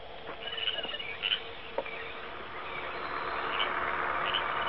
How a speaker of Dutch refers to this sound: Zeg, Jim, hoor jij wat ik hoor? Ik hoor een vliegtuig.